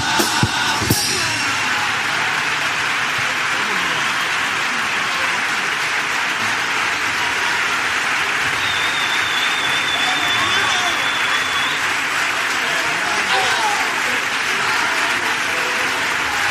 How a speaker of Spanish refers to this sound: Dando la ovación a esta letra,